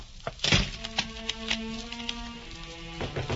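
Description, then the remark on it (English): A door thuds shut, followed by a few sharp clicks and rattles as it is locked, with a low steady hum running underneath and no voices. “I'm sorry, but I'll have to lock your door.”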